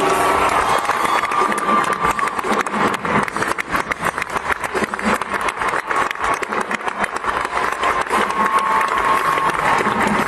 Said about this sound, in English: This time around from Raleigh Little Theater. Big round of applause.